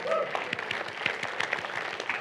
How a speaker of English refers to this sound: Yeah, you can give a little golf clap right there.